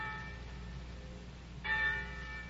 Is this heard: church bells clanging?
yes